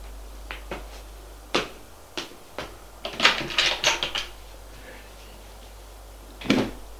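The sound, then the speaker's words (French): A double-door wardrobe being opened: a string of sharp clicks and knocks, a rattling flurry of wooden clatter in the middle, then one last firm knock against a low steady hum. “Et il va ouvrir son armoire à double porte.”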